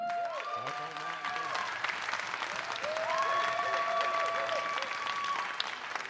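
A live audience claps steadily and fairly loudly for several seconds, the dense applause joined by a few drawn-out whistles or cheering voices.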